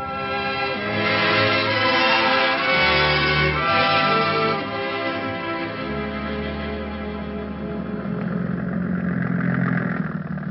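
A landing boat's engine runs steadily and loudly throughout as the boat heads for a dock in Iceland, a continuous low mechanical drone with a throbbing rumble and a faint whine layered on top, with no one speaking.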